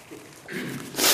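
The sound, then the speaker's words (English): A sharp, nervous sniff through the nose, a short breathy rush of air that swells at the end after a brief quieter inhale, heard alone without any talking. “Excuse me, when I'm nervous, I sniff.”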